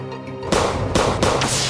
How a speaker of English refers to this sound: The suspect falls in the hail of gunfire, and the deputies move in.